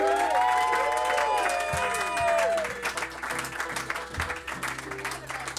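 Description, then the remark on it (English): A crowd applauds loudly for David Hardy, their longtime sound man, with a dense wash of clapping, while high rising whoops and cheers ring out over the first few seconds, then the steady clapping carries on. “But he's really been great, and I think we should have a huge round of applause for David Hardy.”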